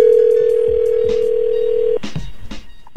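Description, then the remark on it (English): A steady, low telephone dial tone hums for about two seconds, then cuts off into a quick series of short dialing beeps and clicks as the hosts of the radio show Ebro in the Morning call a woman. No one speaks. “We're going to call her up now.”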